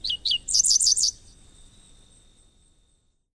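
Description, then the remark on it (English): A grassland songbird sings a short, high phrase of two quick chirps followed by a rapid buzzy trill, heard clearly and alone before fading into quiet. “this summer, look and listen for this emblem of grassland habitats.”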